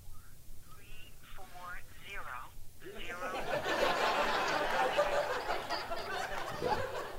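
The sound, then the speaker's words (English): During a service, a watch sounds a warbling, phone-like ringtone melody for a few seconds, then the people present break into loud chatter and laughter that drowns everything out. “It's okay, it wasn't my phone, it was my watch.”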